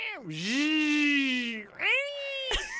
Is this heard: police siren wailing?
no